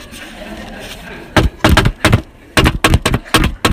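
Someone raps on a door in a drumming rhythm, two loud bursts of quick knocks separated by a short pause, with no talking.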